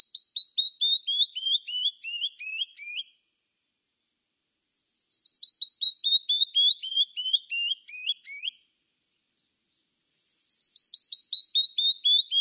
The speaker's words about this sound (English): The canyon wren is one of my favorites. This tiny cinnamon brown bird weighs little more than a marshmallow, but it belts out a cascading song big enough to reverberate off the rocky cliffs and slopes that are its home.